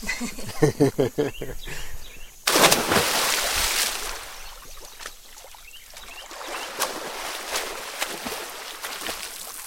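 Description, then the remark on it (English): A boat towing barges along the Mississippi River: after a few seconds of voices, a loud, steady rush of engine and churning water takes over and carries on, with faint splashes throughout. “Back out on the water, a boat is towing a bunch of barges.”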